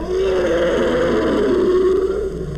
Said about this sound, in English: Here it is again. More famed is the elephant for its trumpeting. And yet, its roar is one of the loudest animal calls in the world.